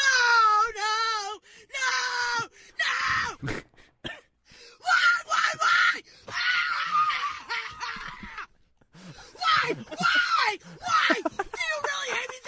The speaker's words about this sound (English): We'll be playing that one, like the chick screaming at inauguration.